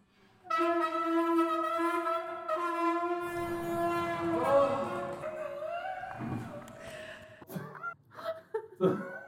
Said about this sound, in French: Et puis, il y a un autre bruit de porte qui ressemble à une baleine.